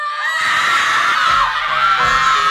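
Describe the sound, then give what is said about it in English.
A person lets out a loud, sustained, high-pitched scream lasting a couple of seconds, wavering slightly in pitch, intense with no other voices. “We take quite a bit of criticism for this, but we find that some screams just wanna”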